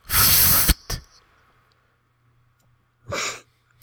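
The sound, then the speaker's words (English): A cat hisses in a sharp, breathy burst, with a quick second puff, then goes quiet before one more short hiss. Loud, with no talking. “I really hope that was supposed to be the sound of a cat hissing.”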